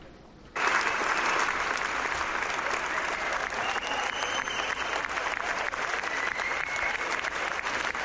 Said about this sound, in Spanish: Es, Itziar, la ovación que recibisteis tras la proyección de la película en el Festival de San Sebastián.